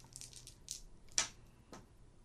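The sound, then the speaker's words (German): An eight-sided die (d8) clatters across a hard surface in a quick cluster of small clicks, then a few sharper knocks, the loudest near the middle, before it settles and lands on 8. No voices. “Ja, ich habe eine 8 gewürfelt.”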